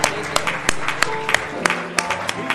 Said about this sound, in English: Let's give the Lord a hand clap this morning. Hallelujah.